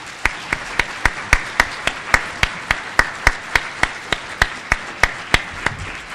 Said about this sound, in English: And with that, I think we are out of time, but I would like to give a large round of applause to our three panelists, if you will.